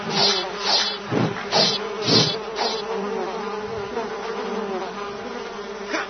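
Houseflies buzz in a steady, droning hum with a reedy tone. Several louder swells pulse through the first few seconds before the buzzing settles into a continuous whine, with no voices.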